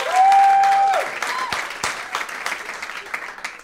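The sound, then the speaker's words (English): A burst of audience applause during a debate, from those who think the government should not place limits online, loud at first with a sharp whistle-like cheer over the clapping, then settling into steadier, thinner clapping that continues to the end. “Those of you who do not think there should be limits placed from the government by us online, let's hear it.”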